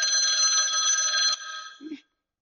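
A phone rings with an incoming call, a bright, sustained electronic trill for about two seconds, then cuts off abruptly. It is fairly loud, with no voices over it.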